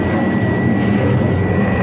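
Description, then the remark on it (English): A supersonic robot plane in a chase through the skies over New York: a loud, steady jet roar rushes past without pause, a dense whooshing engine drone with a faint high whine riding on top, with no voices present. “Faster, faster, robot plane.”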